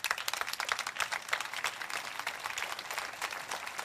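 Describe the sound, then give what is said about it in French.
A crowd applauds steadily, dense overlapping claps forming a bright, crackling wash that holds at an even loudness for a few seconds, with no voices over it. “Ça fait mal, mais on va applaudir pareil.”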